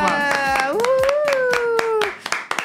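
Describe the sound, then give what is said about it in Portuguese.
Steady, brisk hand claps for a birthday, roughly a dozen in an even rhythm, sharp and loud, while a voice holds a long sung note that rises in pitch and then fades. “Palmas.”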